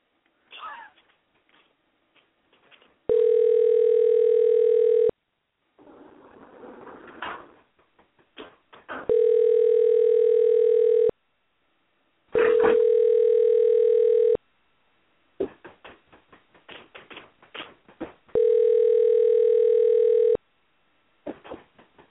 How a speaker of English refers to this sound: Now I'm going to try one more time to call Chief Little Bear. So bear with us, folks, as we give him another call.